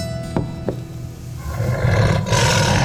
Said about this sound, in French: c'est un lion! Le lion, ça ne mange pas de légumes!